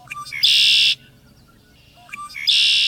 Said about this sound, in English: Three different birds are singing across a marsh. One bird's voice comes across as a brassy conkeree.